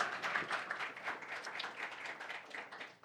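Steady audience applause welcoming two speakers to a talk on UM-UIM cases, a dense wash of many hands clapping at a fairly even level for a few seconds with no one speaking over it.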